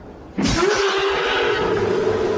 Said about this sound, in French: Le cri que vous entendez, mon rugissement, c'est mon rugissement de prédateur.